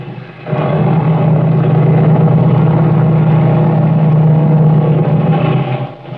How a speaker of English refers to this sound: I'll rev up the engine.